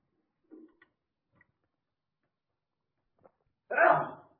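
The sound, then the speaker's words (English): A single sharp sneeze bursts out loudly near the end, preceded by a faint intake of breath and a couple of small clicks in otherwise quiet surroundings. “Bless you.”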